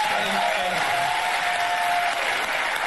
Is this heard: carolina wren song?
no